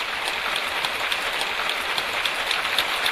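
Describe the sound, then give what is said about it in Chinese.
A large standing audience of Falun Gong practitioners from 53 countries claps continuously in a gymnasium as Li Hongzhi enters the venue of their overseas conference, a dense, steady roar of many hands with no pauses or individual claps standing out, and no voices heard. “李洪志先生进入会场时，全场起立，长时间鼓掌。”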